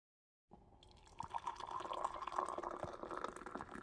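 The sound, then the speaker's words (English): Tea pours steadily into a cup, a continuous splashing trickle that starts after a brief silence and grows fuller, with no voices. “Tea's ready. I'll pour you some.”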